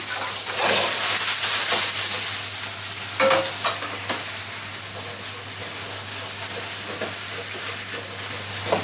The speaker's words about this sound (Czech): Tak a my jdeme vařit. To je ten nejhezčí zvuk, že pane docente. No ježiš. Tak, smažíme i zelíčko, koukám. Tu lepenici.